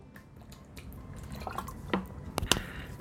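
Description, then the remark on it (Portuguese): Someone takes a small sip of water, with a couple of quiet wet clicks and a soft swallow against low background noise, and no talking. “Golinho d'água.”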